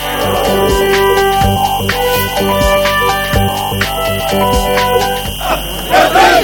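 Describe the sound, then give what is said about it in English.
Thousands of locals in Kisra town, southern Damascus, Syria, cheer and chant loudly for Syrian President Bashar al-Assad while welcoming high-ranking security officers, the roar of many voices swelling in rhythmic bursts with sharp repeated beats running steadily underneath. “Cheering for Syrian President Bashar al-Assad, thousands of locals in southern Damascus welcomed high-ranking security officers who arrived in Kisra town to initiate a reconciliation process”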